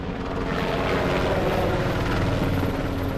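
helicopter flying overhead

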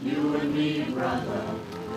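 rain falling

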